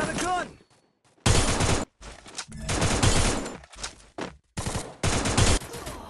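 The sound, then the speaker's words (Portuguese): Rapid bursts of mobile video game gunfire, several loud volleys of automatic shots separated by brief pauses, sharp, as the player lands headshots. “A primeira vantagem de jogar usando essa sensibilidade é que você só vai estar acertando tiro na cabeça.”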